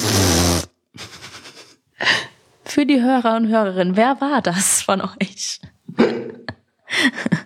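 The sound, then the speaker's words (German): A voice makes a short, loud, buzzy fart imitation with the lips at the very start, and then people talk, with one voice rising in a sing-song way. “…s Geräusch ist der Furz.”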